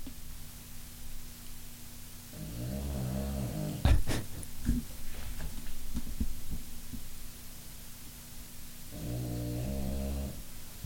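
A dog snoring in deep, rumbling pulls: one long snore, a pause of several seconds with faint clicks, then another, all over a steady low background hum.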